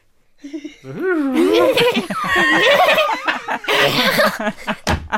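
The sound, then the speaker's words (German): A child's voice imitates a horse's whinny, a long, wavering, high-pitched neigh with shaky rising and falling pitch, fairly loud, trailing off into a short breathy laugh. “Applaus für das Pferdisch von …”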